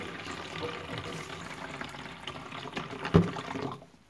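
Tap water runs steadily into a sink as a mother washes the dishes after a Christmas meal, with soft clinks and splashes and one sharper knock of crockery near the end before the flow stops.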